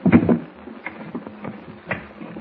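The top drawer in a cabin slides open with a quick scrape, followed by soft, irregular clicks and rustles of objects being shuffled around inside while someone searches for a flashlight, fairly quiet.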